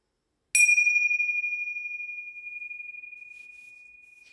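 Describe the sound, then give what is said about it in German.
A meditation gong is struck once during a meditation session, closing Shamatha Vipassana practice and leading into Tonglen practice, giving a clear bright attack and a pure, high ringing tone that lingers and slowly fades in otherwise quiet surroundings. “Wenn du gleich den Gong hörst, dann erinnere dich an die Offenheit, an den weiten Raum.”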